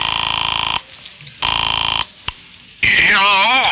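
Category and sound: signal or alarm, telephone ringing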